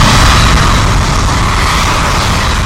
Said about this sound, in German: Merkwürdige Dinge geschehen im ländlichen Pennsylvania. Gasflammen schießen mit einem ungeheuren Lärm aus dem Boden.